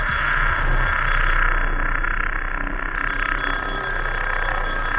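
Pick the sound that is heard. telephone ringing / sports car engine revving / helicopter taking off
telephone ringing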